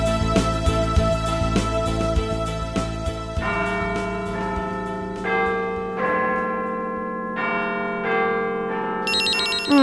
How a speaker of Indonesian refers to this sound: Siapa pagi-pagi bunyi sudah telepon? Oh, masih enak-enak tidur, mengganggu saja.